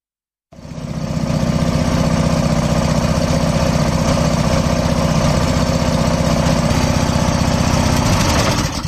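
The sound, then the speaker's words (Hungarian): A rear-engine (faros) bus motor rumbles steadily, a dense low throbbing drone with a fine rapid pulse that starts abruptly and holds constant for several seconds without any talking. “Ez a forrós busznak a hangja volt.”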